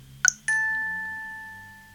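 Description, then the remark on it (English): A short click followed by a single soft, bell-like chime, the hourly chime of a clock device, which rings out clearly and slowly fades over a couple of seconds, with no voices. “Okay, so depending on how loud you've got your volume, it's quite a discreet chime.”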